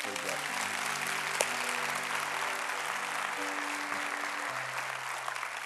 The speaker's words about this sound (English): Come on, let's give God a clap.